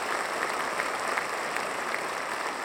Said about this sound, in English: The orchestra is tuning up. Now the lights go down. The conductor of the New York Philharmonic, Jaap van Zweden, he walks out, everyone applauds.